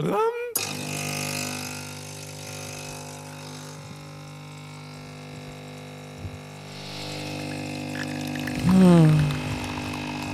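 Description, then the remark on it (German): Liquid pours and trickles steadily against a constant humming drone, with a brief louder gurgling splash near the end. No one speaks. “Plätschert es im Hintergrund wie im römischen Klo, du.”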